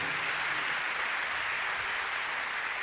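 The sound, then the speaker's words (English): A steady wash of audience applause, many hands clapping together in a dense, even patter that holds at a constant level for about three seconds with no voices over it. “We appreciate the applause out there.”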